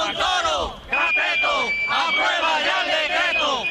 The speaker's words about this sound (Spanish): Con eslóganes y pitidos ante la subdelegación del Gobierno de Cáceres, los policías locales han reclamado al ministro Montoro